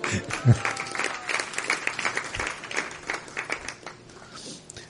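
An audience claps steadily for several seconds after a singing performance, a dense patter of many hands filling the space before tapering off slightly toward the end.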